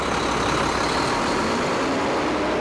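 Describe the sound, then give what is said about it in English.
A semi-truck engine idles with a steady, unbroken rumble and hiss, holding the same loudness throughout, with no voices. The semi-truck brings food to a Second Harvest mobile food pantry at a rural Dane County church. “Every month, about 17,000 pounds of food is brought in by semi-truck.”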